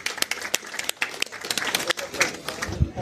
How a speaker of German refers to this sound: Applaus für